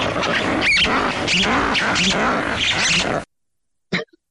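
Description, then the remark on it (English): A loud, raucous chorus of ruffed lemur alarm calls, their loudest vocalization, at the Duke Lemur Center: harsh, overlapping barking squawks pulsing rapidly for about three seconds, then abruptly stopping, followed after a pause by one short final burst. “Here, we see them do what are called alarm calls, which is their loudest vocalization all the time.”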